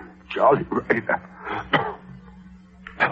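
human body sound, man coughing

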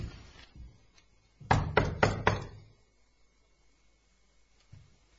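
impact, knocking on a door

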